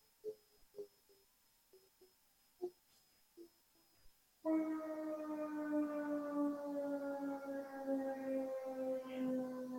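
After a few seconds of near quiet with faint scattered clicks, a loud siren abruptly starts wailing, a steady harmonic tone whose pitch slowly slides downward and holds to the end.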